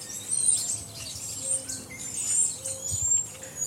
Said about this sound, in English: It sounds like a bunch of women at brunch out on the branch. And those noises, even just sitting in the backyard, the types of birds that are out here, like, it brings me right back.